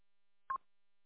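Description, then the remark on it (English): A single short electronic beep, a bright tonal burst lasting about a tenth of a second, standing alone against silence, from a radio transmitter with a transmitter problem. “it sounds like TJ's got a transmitter problem, so maybe the beep beeps have gone nuclear”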